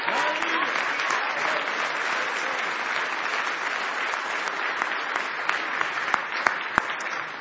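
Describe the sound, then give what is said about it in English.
An audience applauds steadily for several seconds, giving the Lord a hand clap, a dense wash of many hands clapping at once, with a few sharper individual claps standing out near the end. “If you're thankful for that, why don't you give the Lord a hand clap?”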